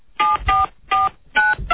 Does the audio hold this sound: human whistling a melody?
no